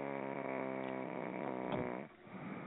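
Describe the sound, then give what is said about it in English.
A voice imitates a loud, drawn-out snore with a buzzing, flapping rasp that sounds much like a fart, sustained for about two seconds before breaking off. “That did not sound like a damn snore. That sounded like someone farting.”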